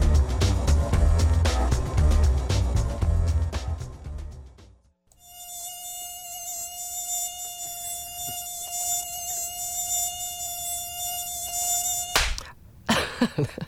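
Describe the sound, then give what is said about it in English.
A mosquito's thin, high-pitched whine holds steady for about seven seconds, following a louder burst of dense, busy sound, then cuts off abruptly near the end. “So the skeeters are out and out in force after all that rainy weather this spring and summer. Prime breeding environment for mosquitoes.”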